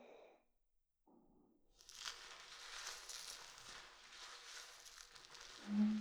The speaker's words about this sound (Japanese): 使うのは薬用入りのリンスインシャンプーです。少し泡立てなきゃいけないからまだつけないよ。泡立ててる間、両耳にその音を聞かせてあげるからね。